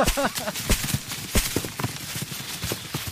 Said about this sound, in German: Lass es uns gleich nochmal versuchen. Und wieder alle zusammen. Auf die Plätze. Fertig. Und los. Stampfen. Und nochmal stampfen.